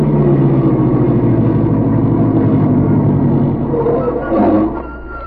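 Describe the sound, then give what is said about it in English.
A stopped car's engine idles near a small airport on the outskirts of a city, a steady low rumble that holds for several seconds, then eases slightly quieter near the end after a brief rise in noise. “Driver, stop the car near that airport.”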